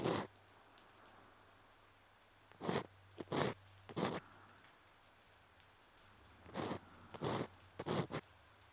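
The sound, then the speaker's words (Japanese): Rain falls steadily in a soft hiss, heard during an ear-cleaning session, broken by several louder crackling bursts that come in short clusters. No one speaks. “雨の音を聞きながら耳かきされてる。”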